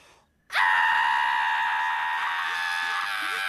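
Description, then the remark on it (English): A woman lets out a single loud, sustained scream that starts abruptly after a brief quiet moment and holds steady for about three seconds, piercing. “What are you doing? Screaming!”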